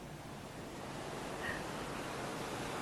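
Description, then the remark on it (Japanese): Steady ocean surf washes continuously onto the shore, a broad hissing roar with a gentle swell midway, heard alone without any voices. “私の涙がやってきた波に溶けて海に飲まれた。”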